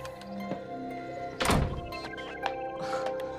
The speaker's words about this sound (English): presses a remote control and the room door closes.